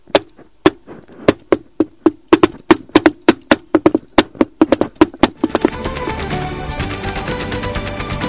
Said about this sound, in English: Oh, be quiet and knock on the door.